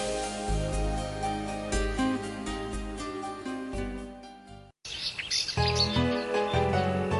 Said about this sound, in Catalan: Sabies que els ocells cantaires utilitzen el seu cant per delimitar el seu territori per niar? Durant l'època d'aparellament i d'incubació, els ocells canten per delimitar i defensar el territori que han escollit per niar.